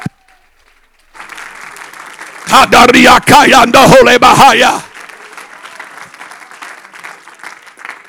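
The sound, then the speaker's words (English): An audience at a worship service claps hands at the preacher's call in a dense, steady patter, swelling into a loud burst with raised voices and cheering midway, then settling back to sustained, softer clapping. “Come on, clap your hands.”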